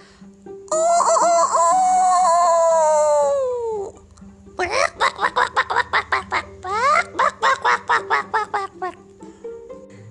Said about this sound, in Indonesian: Seekor ayam membangunkan para penghuni hutan. Ayamnya. Ya. Ayam jago bangun dulu.